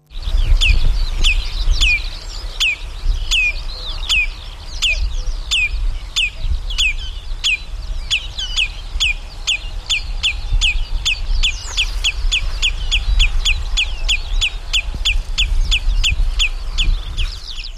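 A wader's sharp, shrill alarm calls ring out in a rapid, steady series, loud, repeating for the whole stretch over a low rumbling background.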